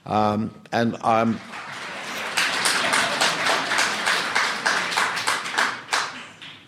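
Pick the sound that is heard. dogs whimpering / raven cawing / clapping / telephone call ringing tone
clapping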